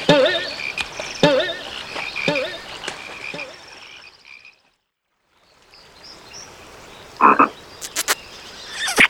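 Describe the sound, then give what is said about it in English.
Frogs croak in a steady run of short, repeated calls over a chirring chorus, fall briefly silent midway, then return with a few louder croaks near the end. “Don't kiss the frogs!”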